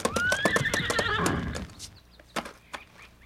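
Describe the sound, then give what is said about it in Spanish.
A horse whinnies loudly over rapid hoofbeats for about a second and a half as a rider approaches at a gallop, then a few scattered clip-clop hoof strikes follow as the galloping fades. “Al galope de su caballo, un joven patriota se acercó al general Maceo”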